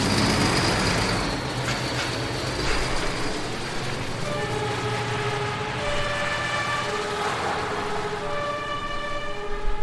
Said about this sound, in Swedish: När hela gruppen samlats i brandbilen lägger jag i växeln. Slår på blåljus och sirener och rullar iväg mot bensinmacken.